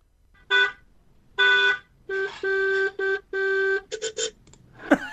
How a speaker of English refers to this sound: God almighty. Three in one there, wasn't it? Three in one. I was going to say that. I don't know how he managed that. Maybe he has different settings on his honking horn.